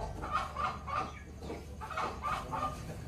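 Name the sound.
hens clucking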